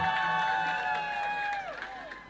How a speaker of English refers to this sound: Can we get a round of applause for the beautiful DJ, please? DJ, DJ, DJ.